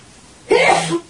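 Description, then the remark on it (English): A single sharp sneeze bursts out after a moment of near silence, a quick explosive burst of breath that fades within half a second. “Bless you.”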